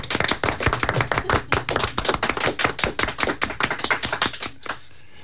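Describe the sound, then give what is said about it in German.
An audience at a Lesebühne (literary reading stage) event applauds for about five seconds: a dense, steady patter of sharp hand claps at an even loudness that thins out and stops near the end. No one speaks. “Vor der Abkündigung und der Ankündigung des nächsten Titels bitte ich noch ein bisschen Applaus vom Publikum, damit das Publikum auch mal hört.”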